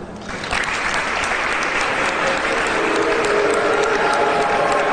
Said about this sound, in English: Demonstrators booed Governor Walker at a Christmas tree lighting ceremony. It's so weird to watch someone say Merry Christmas to a bunch of people booing him.